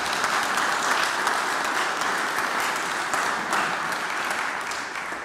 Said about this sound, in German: Ich glaube, auch am Gründonnerstag darf man mal klatschen.